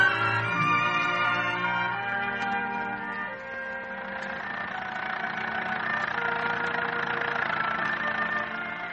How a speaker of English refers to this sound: Approaching Menifee Park, a small Midwestern racetrack, in a rattle-trap car belonging to Johnny Stark, the trainer. It's barely sunup, and the morning air is crisp.